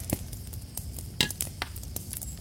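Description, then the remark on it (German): Glasses of homemade butterbeer clink together in a toast, one bright, ringing tap standing out among a few softer knocks, over a quiet background hum. “Dann würde ich sagen, Prost. Prost.”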